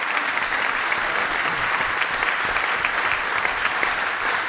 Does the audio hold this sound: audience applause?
yes